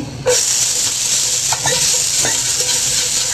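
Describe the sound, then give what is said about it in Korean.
Paprika (bell pepper) is stir-fried in a hot frying pan, a loud continuous crackling sizzle and hiss that starts abruptly, with a few brief scraping stirs. “파프리카를 한번 볶아보겠습니다.”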